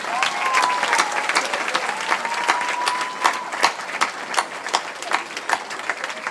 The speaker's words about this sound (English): Ah, are they clapping? Yes!